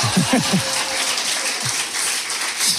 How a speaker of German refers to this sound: Wir haben hier 50 Löwenfans, alles Clubmitglieder, die exklusiv eingeladen wurden zu dieser Weltpremiere. Ihr dürft euch gerne einmal bemerkbar machen, klatschen und so.